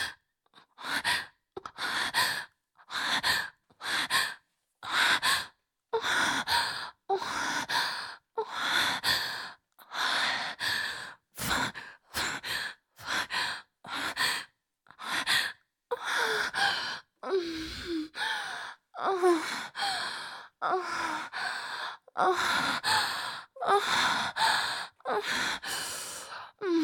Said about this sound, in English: I want you to nuzzle your face in my neck so you can hear front and center my moans and whimpers as you pound your cock into me.